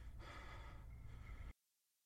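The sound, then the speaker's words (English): A Black man, bare-chested, takes a deep, heavy breath, loud, a raspy rush of air lasting about a second and a half before cutting off abruptly into silence. No one speaks. “So first, we see that there is the deep breathing of a black male who is naked torso.”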